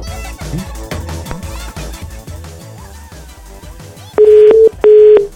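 A phone's ringback tone sounds twice, loud steady beeps with a short gap between them, as an outgoing call rings unanswered, following a busy stretch of background sound.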